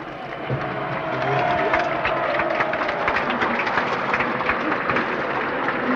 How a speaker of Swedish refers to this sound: Jublet nu härrör sig av att eldskriften på den svarta tavlan i norra kurvan meddelar de 70 000 på stadionläktarna och de 6 000 på stadionplanen att facklan kommer att bäras in av Paavo Nurmi, Finlands största olympier genom tiderna.